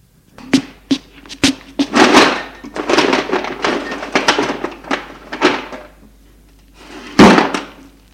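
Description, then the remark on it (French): A sideboard drawer is pulled open with a few sharp wooden knocks, followed by rummaging and rustling as an old brown leather wallet is taken out, ending with one louder thump. “Ouvre un tiroir du buffet pour en sortir un vieux portefeuille, ou plutôt un vieux maroquin en cuir marron.”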